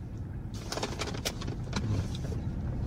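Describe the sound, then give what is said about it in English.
A steady, droning engine rumble fills a car interior from start to finish, with a few brief clicks and rustles rising over the low hum partway through. No one speaks. “I mean, it's not easy to put together a sandwich and record in your car, fuck though.”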